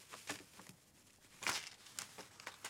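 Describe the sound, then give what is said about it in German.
Soft papery crinkling and pressing, a few scattered rustling bursts with a stronger one midway, as paper with pasta glued onto it is pressed down onto an ink stamp pad. No voices. “Okay, dann drücke ich jetzt mal das Papier mit den aufgeklebten Nudeln in das Stempelkissen.”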